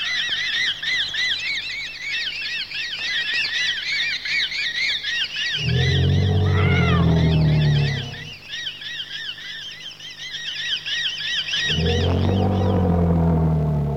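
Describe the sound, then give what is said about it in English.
Sampled African jungle animal sounds play from the keyboard of a CMI: a steady chorus of high, rapid chirping calls runs throughout, broken twice by loud, low, bellowing bursts lasting a few seconds each. “Properly programmed, the CMI can take you to the jungles of Africa simply by touching the keys.”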